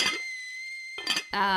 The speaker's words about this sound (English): Well, I put some loose leaf black tea to the teapot.